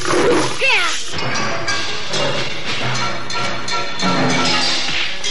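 A striped tiger roars and snarls amid loud crashing and thudding impacts as a man strikes it with blows, a chaotic struggle with bursts of harsh growling and scuffling throughout.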